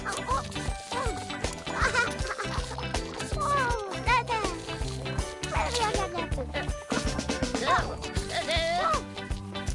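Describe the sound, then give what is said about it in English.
A little black cat meows and yowls several times in rising and falling cries after being sprayed with water from a hose, fairly loud, over a busy, continuous background that sounds like music or other noise. “mind the little black cat”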